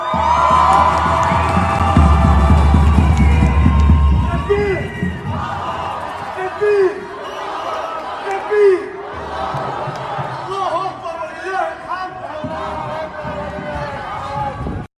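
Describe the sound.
A large crowd at a protest cheers and shouts together on hearing an announcement that Iran has sent drones toward Israel, with rising whoops and chant-like voices over a steady roar of many people, loud and continuous throughout.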